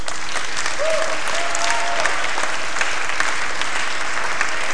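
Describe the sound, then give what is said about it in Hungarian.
A crowd claps steadily for several seconds to welcome visitors from outside the camp at an open evening, a dense, even wash of applause with no pauses and no voices over it. “Köszöntsük őket egy tapssal.”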